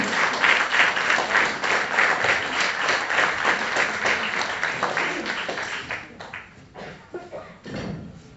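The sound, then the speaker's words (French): An audience applauds steadily for about six seconds to welcome a speaker, the dense clapping then thinning out and fading, with a few scattered claps and some murmuring as it dies down. “On peut l'applaudir.”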